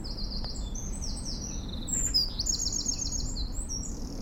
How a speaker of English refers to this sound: That's the first thing. The wee birds will be starting to sing.